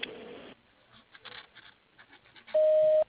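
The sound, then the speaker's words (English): A voicemail beep after a desk phone greeting asking callers to leave a message at the tone: one steady, mid-pitched tone lasting about half a second, loud against the faint rustles and clicks of a tinny telephone line before it. “If you'd like to leave a message, do so at the tone.”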